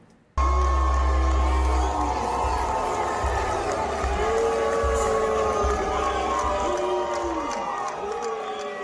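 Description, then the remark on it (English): A large crowd at the Georgia Republican Convention boos Brian Kemp loudly and steadily for several seconds, the sustained jeering mixed with scattered shouts and voices. “He was getting booed down in Georgia.”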